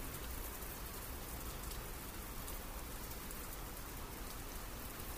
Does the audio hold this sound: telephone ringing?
no